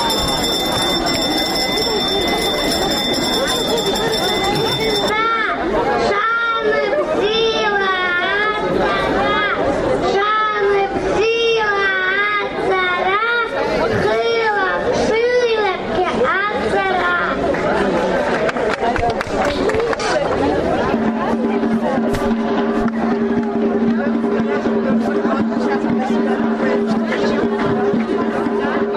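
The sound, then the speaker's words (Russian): A lively crowd of young children and their parents chatters in a school courtyard at 9 a.m. after the first school bell, overlapping voices loud and steady throughout, with a sustained tone emerging in the background toward the end. “Она началась в школьном дворе в 9 утра после первого звонка и поздравления от руководства школы для малышей и их родителей, среди которых, к сожалению, лишь единицы были в масках, состоялся короткий праздничный концерт, подготовленный силами детей.”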